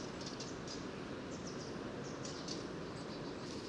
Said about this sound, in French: Alors maintenant c'est un troglodyte.